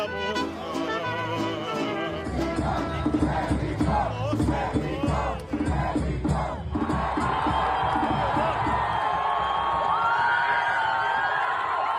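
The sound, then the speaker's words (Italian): A large crowd of Mexican football fans at a fan zone in San Diego roars during the World Cup opening match, chanting and whooping together in rhythmic bursts, then breaks into sustained loud cheering with whistles, a dense wall of voices. “Abbiamo seguito la partita inaugurale e quindi anche l'emozione del primo gol e della prima vittoria del campionato del mondo in una fan zone con praticamente solo tifosi messicani che si sono fatti sentire.”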